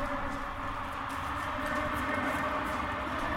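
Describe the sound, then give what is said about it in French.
Steady, continuous rumble of a metro train running, ridden on the way to the Rock en Seine festival at the parc de Saint-Cloud, a dense roar of wheels and motor noise at an even level throughout, with no voices over it. “Je sors du métro et je rejoins la foule qui, des deux côtés de la Seine, converge vers les grilles du parc.”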